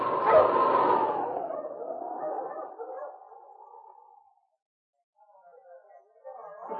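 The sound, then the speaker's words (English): A dog, Sergeant Preston's wonder dog King of the Yukon Gold Rush story, barks loudly, the call stretching into a long, wavering tail that fades to silence before fainter dog sounds return near the end. No one speaks. “Now back to the days of the Gold Rush, when Sergeant Preston and his wonder dog King battled through storm and snow to preserve law and order as they met the challenge of the Yukon.”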